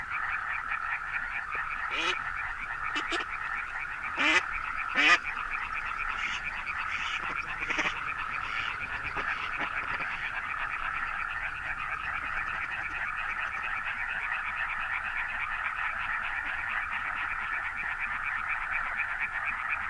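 Several male European tree frogs (ranita de San Antón), half submerged in mud at night in late winter, croak together in perfect synchrony, a continuous dense chorus of rapid, rattling pulses at steady loudness, with a few sharper calls early on.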